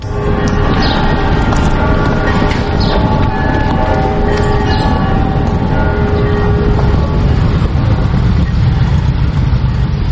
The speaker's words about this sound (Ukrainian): провулками Лаври мчать півсотні потужних мотоциклів.